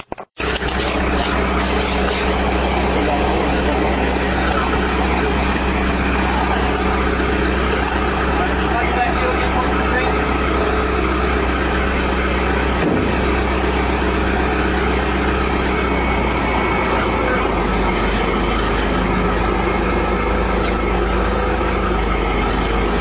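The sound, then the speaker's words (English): A crane truck's heavy engine idles in a steady, loud low rumble throughout as a rainwater tank is installed, roped up and lifted onto the crane, with indistinct voices and a single sharp knock partway through. “And so without any further ado, I'm now going to bring in the recording, and this is a recording of a rainwater tank being installed.”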